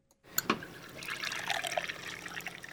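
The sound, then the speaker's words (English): A pint of Colorado-brewed craft beer being poured from a tap: after a brief silence, a couple of sharp splashes give way to a steady, fizzy rush of liquid filling the glass. No one speaks. “That's what it sounds like to pour a pint of Colorado-brewed craft beer.”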